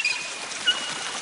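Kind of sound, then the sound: household object, water running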